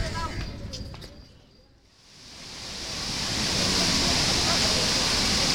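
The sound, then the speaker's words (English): The waterfall at Devi's Fall: its steady, rushing roar swells in after a brief lull and holds loud, a dense wash of falling water. Faint ringing tones, the bells of a Hindu temple in Pokhara, fade out at the start. “It's Tuesday, April the 4th, and we're at Devi's Fall.”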